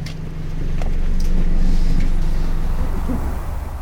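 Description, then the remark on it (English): A steady, deep engine rumble with a low droning hum, as heard riding inside a bus, swelling slightly then easing, with a few faint rattles and clicks over it. “But today we're going to take the bus.”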